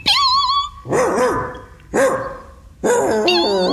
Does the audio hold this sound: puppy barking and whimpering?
yes